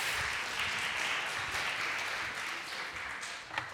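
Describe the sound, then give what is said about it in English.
A crowd applauds steadily, a dense wash of many hands clapping at an even, fairly loud level that tapers slightly toward the end with one sharper clap near the close. “I think you should just applaud that.”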